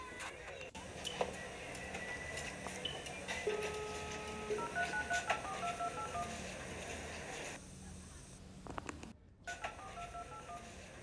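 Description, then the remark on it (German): A quick series of telephone keypad tones beeps out one after another over a steady background hum, followed by a short lull and faint line sounds as the call connects; a call is being dialed on a mobile phone that a boy lost. “Ich rufe Felix an.”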